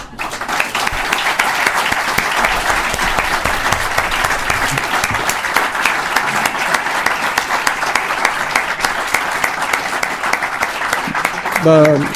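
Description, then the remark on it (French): Sustained audience applause, a dense, steady wash of many hands clapping at even loudness for about twelve seconds, with a voice starting up just as it ends. “C'est à moi de vous applaudir et merci beaucoup pour toutes vos questions et vos remarques.”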